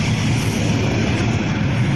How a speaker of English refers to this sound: But this guy, he brings it down, but he didn't hit the brakes long enough. It's this yellow plane right there coming into the picture.